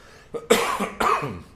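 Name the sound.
coughing and throat clearing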